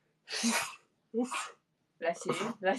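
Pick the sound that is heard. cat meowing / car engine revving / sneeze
sneeze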